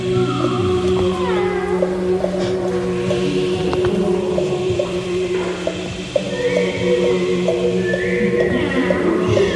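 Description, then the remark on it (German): A choir of many overlapping performer-singers' voices mimics cat meows as textural nature sounds, sliding up and down in wavering glides over a steady humming drone, dense and continuous throughout. “Die Performer-Sänger führen uns in eine temporäre, klangliche Transformation, bei der ihre Stimmen von der Suche nach Harmonie zu einer Schaffung texturaler Naturklänge wechseln. Von der Simulation des Windes bis hin zu Katzenmiauen.”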